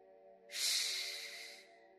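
A single long, forceful exhale through the mouth makes an airy whooshing rush, lasting just over a second before tapering off, with no talking; part of a breathing exercise, after breathing in silently through the nose.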